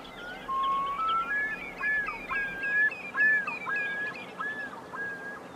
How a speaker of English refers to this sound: I suppose, in fairness to our listeners, we might as well let them hear at this stage the Great Northern Diver that you refer to there, Niall, just so they'll know the bird you're speaking of. So this is the Great Northern Diver.